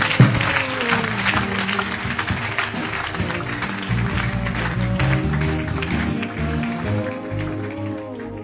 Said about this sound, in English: Can you give Jesus a clap?